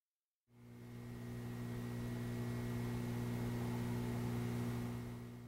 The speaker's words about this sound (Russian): Звук. Первым вернулся звук. Монотонные гудения, похожие на работу старого холодильника ЗИЛ.